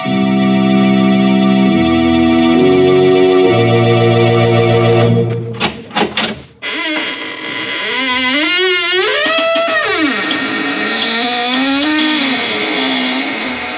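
squeaking door

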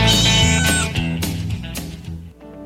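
cat meowing

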